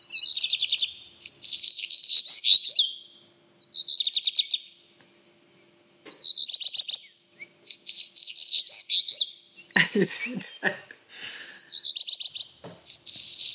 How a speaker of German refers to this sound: Ja, das ist der Hausrotschwanz. Ja, das erste Trillern ist so verwirrend.